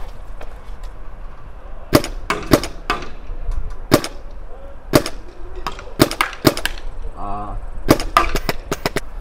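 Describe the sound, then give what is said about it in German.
A magazine-fed tournament paintball marker fires about a dozen sharp pops, some spaced apart and others in quick bursts of two or three, over a low outdoor background hum. “Nach 5 Schuss muss ich drehen.”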